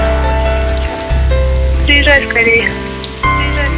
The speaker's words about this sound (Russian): У меня сейчас дождь.